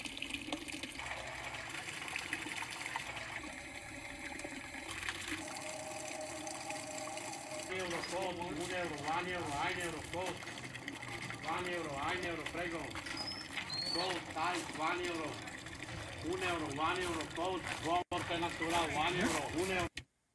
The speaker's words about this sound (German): Sie trösten sich mit den Springbrunnen, von denen es unzählige gibt, und mit dem Plätschern der Trinkbrunnen, die überall in der Stadt aus dem Straßenpflaster ragen.